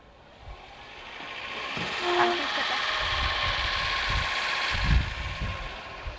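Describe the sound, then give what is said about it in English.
Dorothy's car engine runs steadily throughout, a continuous droning rumble with a faint mechanical rattle and a few low thumps, loud and unbroken for the whole six seconds. “I can't hear for Dorothy's car.”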